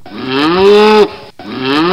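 A cow moos loudly, one long drawn-out low call lasting about a second, followed after a brief pause by the start of a second moo.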